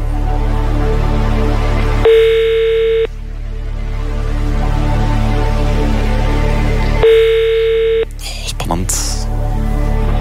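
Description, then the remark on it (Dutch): A telephone ringback tone purrs twice, each burst about a second long with a few seconds' pause, over a low background hum, followed by a click as the line picks up. “Yes, hij gaat al over, dat is mooi.”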